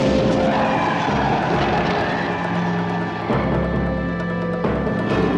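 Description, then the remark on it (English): After a tire blows out, a car skids hard with a loud, continuous screech of tires over roaring engine noise, briefly dipping midway before the harsh grinding skid surges back up, intense throughout. “They're like kind of in the car driving along and looking at each other, and then she goes to like touch his face, and then the tire blows out.”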